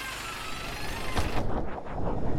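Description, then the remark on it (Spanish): A bus engine idles with a steady, loud low rumble, then a brief sharp burst and pulsing revs as the bus pulls away. No voices are heard. “El autobús vuelve a arrancar y tú diriges tu atención al interior del camión.”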